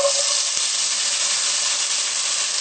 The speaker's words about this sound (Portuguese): Eu, particularmente, gosto de usar óleo de girassol. É o que eu vou usar, tá bom? Eu começo o refogado pondo um pouquinho de óleo. Sempre primeiro o pimentão.